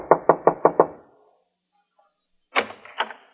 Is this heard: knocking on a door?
yes